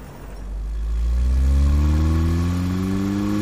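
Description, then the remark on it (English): A car engine starts low, then revs up and accelerates, its harmonics climbing steadily and holding at a loud roar. No voices are heard. “Tell you what, hop in the car and we'll go to my club.”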